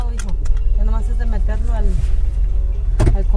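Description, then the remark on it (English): Steady low road rumble fills a car's cabin during a ride through Boyle Heights, with a mother and her son talking over the constant engine and tire drone. Near the end comes a brief bump or thud. “During a car ride through Boyle Heights, his mother tells him all they can do at this point is wait and see if it's God's will to make it happen.”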